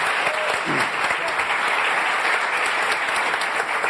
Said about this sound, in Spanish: Aplauso para él.